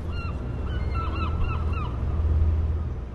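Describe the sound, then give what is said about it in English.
Seagulls squawk repeatedly in short, overlapping cries over a steady low rumble on the Portland, Maine waterfront, clear, with no one talking. “Seagulls squall, buoy bells ring, and small boats putter by.”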